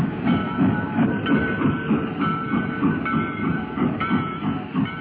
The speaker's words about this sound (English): The funeral train on the track that leads back home to Paducah.